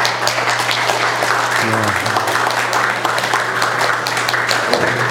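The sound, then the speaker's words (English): A church audience applauds steadily for about five seconds to welcome a two-week-old baby and her parents, a dense, even wash of clapping hands with a low hum running underneath and a brief tonal murmur partway through. “Why don't you give him a round of applause?”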